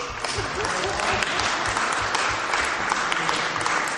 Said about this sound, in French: C'est juste pour, je ferme la parenthèse, pour un petit applaudissement et réveiller les cœurs.